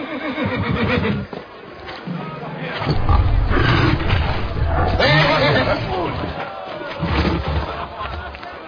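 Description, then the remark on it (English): A horse neighs and whinnies loudly and repeatedly, shrill cries rising over rumbling, roaring commotion, with voices mixed into the noisy scene. “If you can rule that horse, I'll make him yours.”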